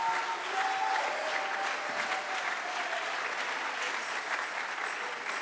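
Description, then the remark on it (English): A church audience claps steadily in praise of God, dense overlapping hand claps at a fairly loud, even level, with faint voices and a brief tone beneath the applause. “Come on, clap your hands and give Him praise right now.”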